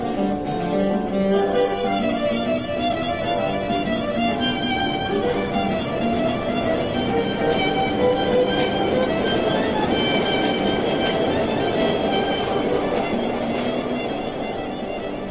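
An uptown subway train rumbles steadily along, a loud, continuous roar of wheels and motor with whining tones and rattling running through it for the whole stretch, no voices.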